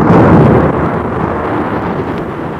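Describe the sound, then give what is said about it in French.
A loud, deep rumble of thunder from a violent thunderstorm with lightning and torrential rain rolls on without a break, heavy in the low end and fading only slightly over a few seconds, with no voices. “Un violent orage se fait, un orage terrible, tonnerre, éclair, pluie torrentielle.”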